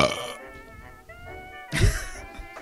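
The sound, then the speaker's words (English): A loud burp from a male rumbles out near the end, following a brief noisy burst at the start and a stretch of faint tonal sound in between. No one speaks. “And he giggles over his own burp.”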